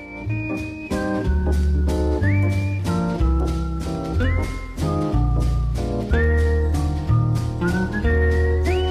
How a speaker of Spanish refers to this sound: De hecho, él fue de los primeros en hacer el scat con guitarra, y haciendo la misma figura, en vez de cantado, escatear con, digamos, con el silbido.